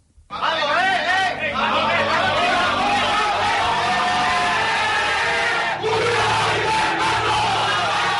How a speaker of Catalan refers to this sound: I l'equip va acabar celebrant la tornada a casa i l'ascens amb un càntic compartit amb l'afició.